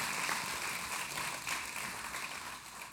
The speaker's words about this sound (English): If you're a parent here today and you have adopted a child, you are a great champion. Can we give all those parents a big hand clap in the room today?